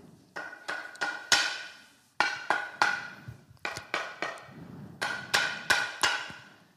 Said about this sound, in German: Ein paar Jahre später verbrachte das Mädchen viele Stunden in der Garage. Sie nagelte und hämmerte, um ihr eigenes Boot zu bauen.